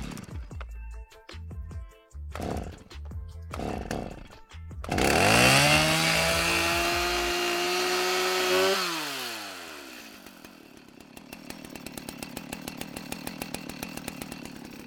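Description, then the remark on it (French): A chainsaw, held by one of three sculptors in a small shaded park in front of the Musée Ingres Bourdelle, Square Picard, Montauban, Tarn-et-Garonne, France, sputters and revs in short bursts. It then roars steadily at high pitch for several seconds before dropping to a rattling idle with rapid, regular engine ticks. Loud, no voices. “Alors non, rassurez-vous, le bruit de cette tronçonneuse, ce n'est pas celle d'un élagueur en train de couper les arbres de ce petit parc ombragé installé devant le musée Ingres Bourdelle.”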